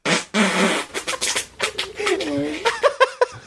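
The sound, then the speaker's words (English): A rapid series of loud farts, some drawn-out and almost tonal, others short sputtering bursts, with voices and chuckling mixed in around them. “She's the first two farts, it, and then … yeah. comes in.”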